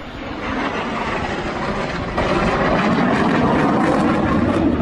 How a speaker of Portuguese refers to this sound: Levantou voo nesta terça-feira em Lidköping, na Suécia, o mais novo caça da Força Aérea Brasileira. O Gripen F-39 foi entregue pela empresa sueca Saab, que em 2013 venceu a concorrência para fornecer o modelo ao Brasil.